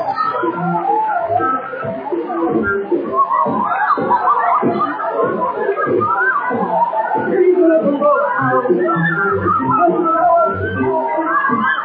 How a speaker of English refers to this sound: How about him? I don't know what you're screaming about.